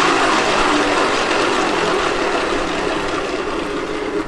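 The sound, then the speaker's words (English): A steady, dense mechanical clicking from a rotating desk organizer with places for pens, pencils and paper clips in an office, like a ratchet turning continuously at an even level for several seconds, with no voices. “There's also this neat little organizer thing that it's got places for pens and for pencils and other odds and ends, paper clips, and it rotates and it makes this little noise like this.”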